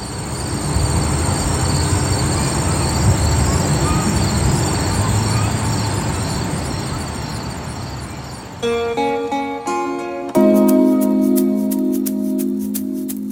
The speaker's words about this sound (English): Here's some sound from our producer, Meg Dalton. It's Mill River Park in Stamford,